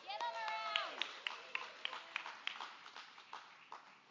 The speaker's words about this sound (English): Got the hand clap beforehand. That's nice.